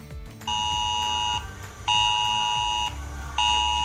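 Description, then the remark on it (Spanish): A loud emergency alert tone from mobile phones, sounded in the Safor and Ribera districts of the Valencian Community, Spain, because of torrential rain: a harsh, high electronic beep in long repeated bursts, each lasting about a second with short gaps between, and no voices. “Esta tarde hemos vuelto a sentir, bueno, esta tarde, hoy hemos vuelto a sentir la fuerza de la naturaleza, la de la lluvia, que ha provocado de nuevo que se escuchara ese sonido.”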